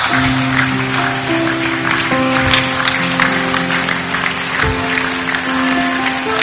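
An audience claps steadily in a dense, continuous wash of hand claps, while sustained organ-like keyboard chords hold underneath and shift a few times.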